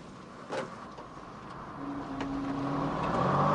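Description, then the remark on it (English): A car engine hums steadily as the car parks outside a large, dilapidated building on a wide, quiet street, its pitch and loudness gradually rising toward the end, with a couple of brief clunks early on. No one speaks. “parks outside a large, dilapidated building on a wide, quiet street.”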